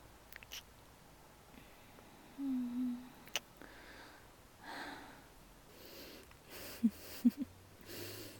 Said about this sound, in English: You're breathing quite hard right now. Don't worry.